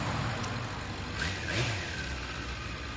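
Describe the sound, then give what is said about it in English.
A motorcycle engine runs with a steady, throaty rumble, briefly surging as it revs partway through, with no voices over it. “motorcycle's gorgeous.”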